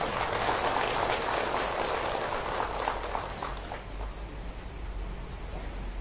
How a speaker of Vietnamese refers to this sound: Mong quý vị hãy dâng cho một tràng vỗ tay thật lớn.